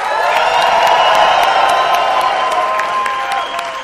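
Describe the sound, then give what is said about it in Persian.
A large live-show audience, cued by the host, screams and cheers loudly and continuously, a dense wall of shrieks and whoops with scattered claps, sustained at full intensity for several seconds. “جیغ”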